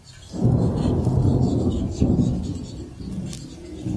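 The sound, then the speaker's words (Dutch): A heavy downpour roars steadily, a dense, rumbling wash of rain that swells in over the first half second and stays loud throughout, with no voices over it. “Daar komen de stromen van regen, hè?”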